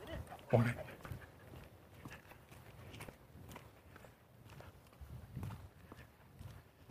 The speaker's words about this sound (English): And a woman walking the dog.